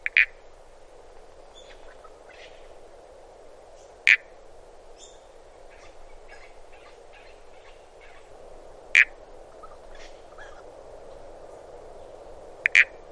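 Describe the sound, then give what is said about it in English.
Southern toadlet (Pseudophryne semimarmorata) frog calls: short, loud, creaky bursts repeated at irregular intervals of several seconds, standing out over a steady hum of insects or frogs, with no voices. “The last of the small frogs is the southern toadlet, Pseudophryne semimarmorata.”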